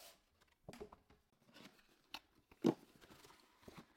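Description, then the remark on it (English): A cardboard box holding a keyboard set being handled and opened for an unboxing: scattered crinkly rustles and scrapes, a few sharp crunchy tears and one louder snap, with no talking. “So let's do a quick unboxing and let's check it out.”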